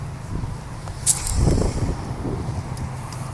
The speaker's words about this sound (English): I love being, though, like somewhere like this where I'm out at a lake or a pond, and it's clearly I'm in the city still, but you get the waves crashing and the sounds of the lake, but you also get traffic and sirens and all that kind of good stuff.